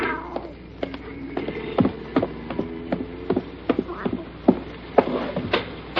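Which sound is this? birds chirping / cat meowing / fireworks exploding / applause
cat meowing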